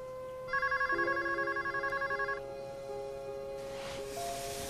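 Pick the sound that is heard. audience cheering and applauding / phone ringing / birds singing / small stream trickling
phone ringing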